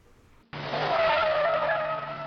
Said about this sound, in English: The tires squealed as the car came to a sudden stop in front of the school.